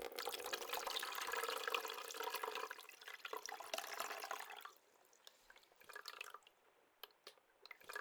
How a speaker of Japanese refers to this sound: お湯加減はどうでしょう。よかった。熱くないみたいなので、髪の汚れを落とすようにザバーッと。